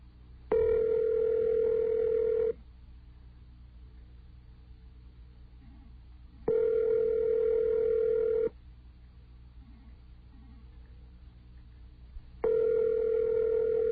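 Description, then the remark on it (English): A phone call to a 7-Eleven in New Orleans, Louisiana rings out unanswered: three steady ring bursts about two seconds long, each followed by a four-second pause, heard through a telephone connection with faint line hiss between rings. “They don't seem to answer their phones.”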